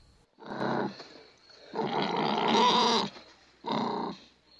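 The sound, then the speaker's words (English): A pig being hunted with spears in a jungle squeals loudly three times, harsh, strained shrieks, the middle one longest, with short pauses between and no talking. “The others circle the pig with their spears held ready.”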